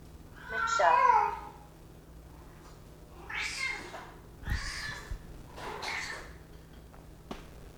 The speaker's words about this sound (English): That's just my kitty. That's just my kitty.